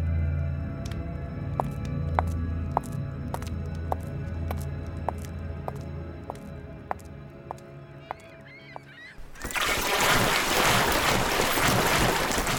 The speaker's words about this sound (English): A boat gets pulled to shore.